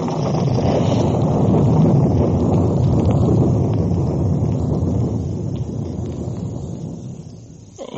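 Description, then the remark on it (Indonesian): A long, heavy rumble of thunder rolls on for several seconds over a rice field as the sky darkens before rain, loud and deep with a windy roar, then slowly fades away near the end. No one speaks. “Barangkali ketelaku yang berkarung-karung itu besok pagi sudah akan habis dimakan kilat dan guntur.”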